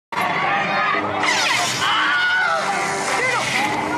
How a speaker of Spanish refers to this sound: Y si tienen una duda de lo que es el grito Wilhelm, yo les traigo aquí unos ejemplos del grito Wilhelm en el pasado de Star Wars.